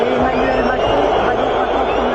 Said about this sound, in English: They're booing him, folks. Look at him.